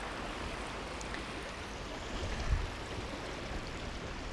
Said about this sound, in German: Weil du vielleicht gehört hast, wie das Meer rauscht.